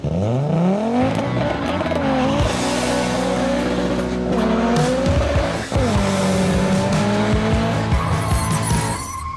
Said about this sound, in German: Die Motoren des Ascona laufen eigentlich gut, aber der Opel ist vom Fahrwerk her noch immer nicht erste Sahne. Das Auto bockt weiter herum.